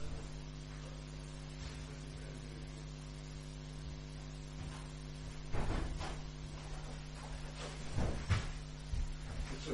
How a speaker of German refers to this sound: Ah, entschuldigt, ich muss kurz hinausgehen, die Türe öffnen.